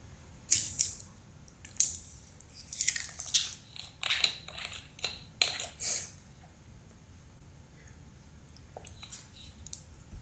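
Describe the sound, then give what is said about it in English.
Someone drinks water, with a run of wet gulps and mouth clicks over several seconds before it trails off into near quiet. “Taking a little water here, guys.”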